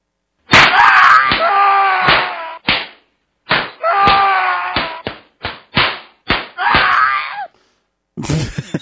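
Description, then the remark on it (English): A loud run of sharp slapping hits from a slapping sound effect, about eight in quick irregular succession, mixed with wailing, groaning cries between the smacks, ending with a brief rough burst of noise. “You've just been officially bitch slapped.”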